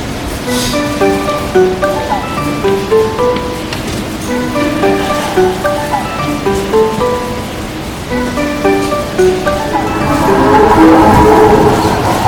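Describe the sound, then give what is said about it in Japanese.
A train bound for Gakken Nara Tomigaoka pulls into platform 1 of a station with a steady rumble that swells louder near the end, while a bright chiming melody plays over the noise. “一番線に学研なら富ヶ丘行きが到着します。危険ですので黄色い点字ブロックの後ろまでお下がりください。”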